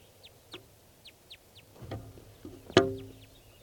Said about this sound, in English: Starting just a little bit later, and there is a crossbill here, or two. Wild bird.